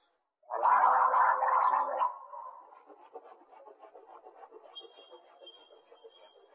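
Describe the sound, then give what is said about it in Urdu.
A loud burst of bubbly gargling lasts about a second and a half, then trails into softer watery swishing and sloshing as the mouth is rinsed, with no one speaking; mouth rinsing and gargling are done together in a demonstration of the proper method. “آپ نے کلی اور غرغرا ایک ساتھ دیکھا، اس کے حوالے سے چند مدنی پھول عرض کیے جائیں.”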